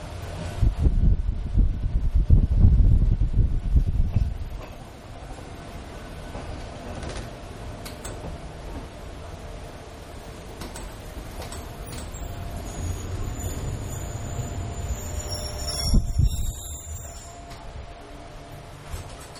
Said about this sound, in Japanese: 宇都宮八王子線のね、八王子線の方の、走行音聞いていただきましたけれども、ちょうどこれね、実は、録音撮ってたそばの方が窓を開けていらっしゃったので、ちょっとね、結構風に吹かれてる音が入ってしまってますけども、その分臨場感があったんじゃないかなという感じがします。